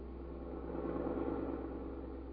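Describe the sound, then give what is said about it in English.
A car engine hums steadily from inside the cabin of Pete's car, a low, constant drone with a faint rise in loudness midway and no voices over it. “Suppose we listen in on the conversation that is going on in Pete's car.”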